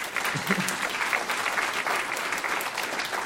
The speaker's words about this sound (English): So, yeah, just give Pastor a round of applause real quick, please.